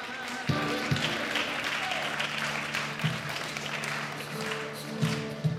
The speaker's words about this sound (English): They call themselves Hebrew Israelites. They stand in their seats clapping and singing.